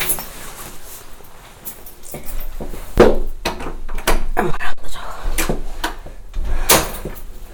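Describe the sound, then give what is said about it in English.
A door is handled, with a series of sharp clicks and knocks as it's opened and shut, plus some rattling and shuffling between the louder impacts. “This door is going to clip a little tiny bit higher.”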